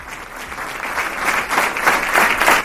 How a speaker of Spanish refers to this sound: Es el emotivo aplauso con el que se cerraba el acto de homenaje a Inés Sánchez, la voluntaria de Protección Civil que el pasado 4 de enero perdía la vida en un accidente de tráfico en León.